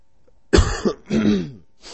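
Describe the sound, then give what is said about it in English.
A loud cough followed by a rough throat clearing, then a brief breathy exhale; no talking, just two harsh bursts in quick succession. “Excuse me for coughing.”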